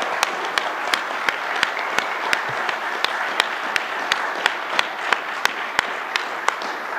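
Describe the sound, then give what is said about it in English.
An audience applauds three candidates steadily for several seconds, a dense wash of clapping with one sharp clapper keeping an even rhythm on top. No one speaks. “Let's give one more round of applause to all three candidates for a great job.”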